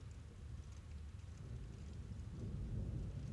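Steady rain hisses softly while a low thunder rumble rolls underneath, swelling slightly toward the end. No voices, just the continuous wash of the storm.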